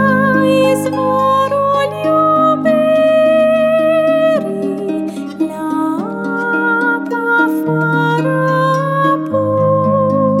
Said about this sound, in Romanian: Vom continua tema din această ocazie, înțelepciunea, după ce ascultăm primul colaj de melodii pregătit pentru astăzi. Audiție plăcută!